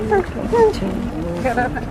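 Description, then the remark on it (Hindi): A motorboat that ferries motorbikes across from one bank to the other drones in a low, steady rumble on the water, continuous throughout, while a person talks over it. “ये motor boat है ना, बाइक्स लेके जाता है इस पार उस पार।”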